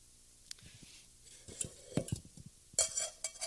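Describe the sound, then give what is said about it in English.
A propane canister is screwed onto a camp stove: a run of small metallic clicks, taps and scrapes, then a short, sharp hiss of gas, with no talking. “And I pull out this propane tank here. I don't think I can do it one-handed. It just screws right inside of there.”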